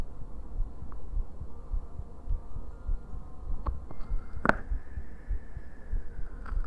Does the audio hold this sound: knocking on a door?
no